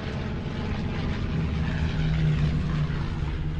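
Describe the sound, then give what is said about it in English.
A steady, loud drone of propeller aircraft engines roars overhead, a dense low hum with a faint rising tone, continuous throughout with no voices. “A camera sits on a stand as planes fly overhead.”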